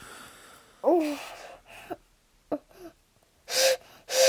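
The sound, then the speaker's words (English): A child blows a whistle in several short, breathy bursts, mostly airy rushes of breath carrying a thin, wavering tone, with the last two blows the loudest and hissiest. “Right, go on, blow the whistle.”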